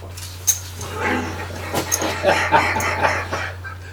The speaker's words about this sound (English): Holy moly, doggy.